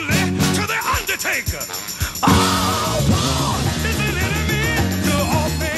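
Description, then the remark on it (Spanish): A loud, driving anti-war song about the Vietnam War plays throughout, with pounding drums and a full band under a forceful, shouted-sounding vocal line that cuts in sharply partway through. “Me encanta la fuerza de esta canción, ¿verdad?”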